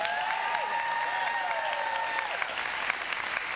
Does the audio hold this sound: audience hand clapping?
yes